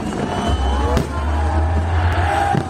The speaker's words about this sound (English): City Day ends with a firework display. The cheering crowd, a stark contrast to the horrors of war.